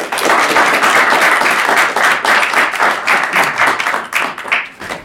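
An audience that includes Swedish members of parliament (Riksdag) claps steadily for several seconds to welcome a guest, a dense, loud patter of many hands forming a continuous wash of applause that thins slightly toward the end. No one speaks.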